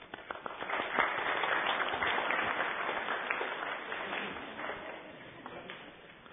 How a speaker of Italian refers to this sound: Introduciamo con un applausetto il prossimo animale.